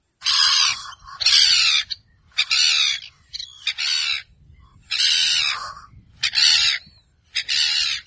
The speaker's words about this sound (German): Im Norden Islands stand unsere Hütte gleich neben einem solchen Nistgebiet. Ein Stück weiter regt sich eine Möwe auf.